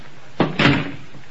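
A kitchen's open back door is kicked shut: a sharp knock followed a split second later by a heavier, louder bang that rings out briefly, with no talking.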